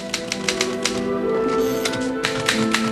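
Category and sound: machine, typewriter typing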